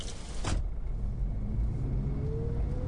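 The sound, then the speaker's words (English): A car drives along a road in fog with a steady engine rumble and road noise; a brief whooshing burst comes early, and the engine pitch slowly rises toward the end. “And I wondered if she'd still be in the car when we reached the other side.”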